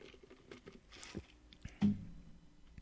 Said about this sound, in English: Excuse me. Well, let me sip my, my Coke here.